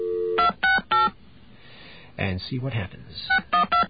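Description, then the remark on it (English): A steady payphone dial tone gives way to a quick series of touch-tone beeps, three then a short pause, then more tones after a man briefly speaks; the phone sounds are clear. “Let's get another dial tone here.”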